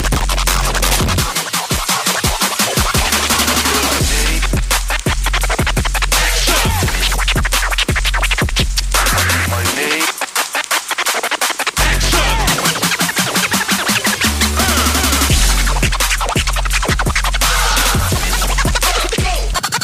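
Rapid, loud turntable scratching fills the track, choppy back-and-forth strokes cutting over a thumping hip hop beat with heavy bass, with a brief quieter break midway.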